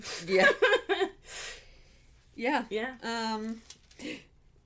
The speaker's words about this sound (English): I keep hiccuping. And no, you're just gasping. Like, it's because of this energy drink.